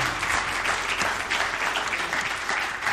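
An audience claps steadily during a morning church worship service, a dense, sustained wash of many hands applauding together with no talking over it.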